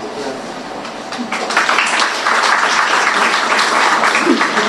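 An audience at a secondary-school graduation event applauds a speaker from a partner organization, a dense crackle of many hands clapping together that swells louder after a second or so and then holds steady and full until the end.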